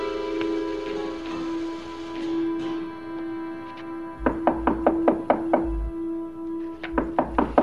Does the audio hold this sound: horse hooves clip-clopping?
no